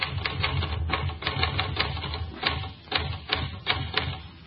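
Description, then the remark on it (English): Rapid, uneven clacking of typewriter keys struck one after another, a steady mechanical patter with occasional heavier strikes and no voices. “why have you stopped typing?”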